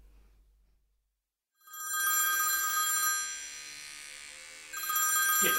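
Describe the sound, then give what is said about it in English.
A telephone rings loudly, a bright, warbling electronic trill sounding in two bursts after a brief silence, with no one talking. “Get that for us, will you”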